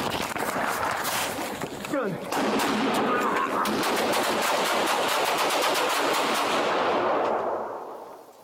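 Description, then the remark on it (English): A loud, rapid burst of gunfire recorded on body camera footage, many shots cracking in quick succession for about two or three seconds before it cuts off, with muffled voices and commotion mixed in underneath. “I think that gunfire ends in all of 2 or 3 seconds.”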